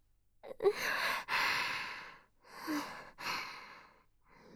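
A drawn-out yawn: two long breathy exhalations, each opening with a brief voiced catch, followed by a short final breath. No talking.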